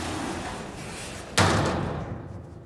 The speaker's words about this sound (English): The elevator doors close.